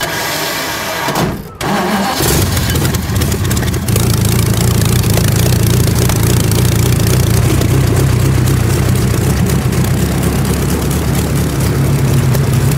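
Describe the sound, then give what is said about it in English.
A race car engine is cranked over by its starter with the spark plugs taken out, to get the oil pressure up, churning in a steady, loud mechanical whir without firing, after a brief pause near the start. “So I have to take the plugs out to crank the engine over, otherwise the battery goes flat.”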